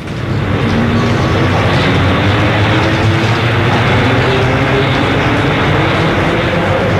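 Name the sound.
metro train running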